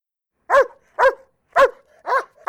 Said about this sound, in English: Dogs are so noisy, and they always wreck things.